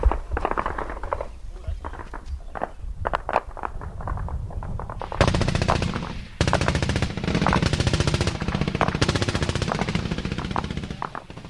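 Gunfire from an ambush on a platoon caught in the open, fired from a tree line about 150 metres away, with rounds hitting the tops of poppies. Scattered sharp cracks at first, then sustained rapid automatic bursts that rattle on loudly with only brief breaks, dense and continuous through the second half.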